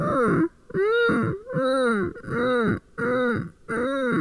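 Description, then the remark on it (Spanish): A voice does a vocal exercise of about six short whimpering hums, like a puppy crying, each sliding up and then back down in pitch, repeated in a steady rhythm with brief pauses between them. “Ese lloriqueo extra ayuda un poco a que la compresión vocal se mantenga ahí.”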